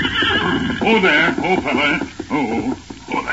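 A riderless horse grazing on a trail toward Rock City whinnies loudly and repeatedly over a few seconds, its shrill wavering cries prominent, with hooves clip-clopping faintly underneath on a thin, radio-like recording.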